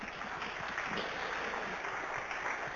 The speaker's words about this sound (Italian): Non sono parole precostruite, l'applauso ve lo voglio fare io a voi.